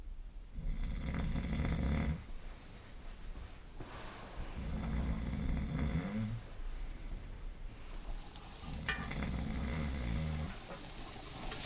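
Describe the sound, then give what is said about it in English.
A person snores loudly in a shared co-ed bunk room of eight people in a hut, three long rasping inhales spaced a few seconds apart, with quieter breathing between them and no talking. “There were 8 people in my co-ed room, and you might get a good night's sleep if your neighbor doesn't snore. Fat chance.”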